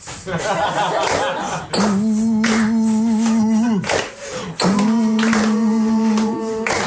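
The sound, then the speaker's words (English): Hands clap in sharp, spaced beats, starting as a noisy burst and then continuing under a voice holding long, steady sung notes. “While you're clapping, can you sing?”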